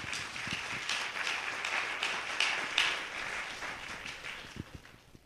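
An audience claps hands for the Lord in a steady, dense patter of applause that holds fairly even for several seconds before tapering off, with no voices standing out.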